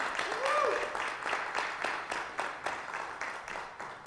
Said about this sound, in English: We have a wedding anniversary this morning. This is when everybody claps, yeah.